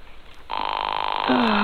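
A telephone rings over the line, a steady electronic tone that starts abruptly and holds, thin and band-limited as if heard through a handset, with a lower tone joining near the end.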